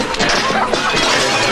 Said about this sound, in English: Will glances around, then throws a rock at the window of a shed.